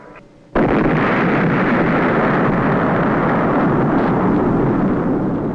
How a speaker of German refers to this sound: So, liebe Hörerinnen und Hörer, hört es sich an, wenn eine Atombombe explodiert.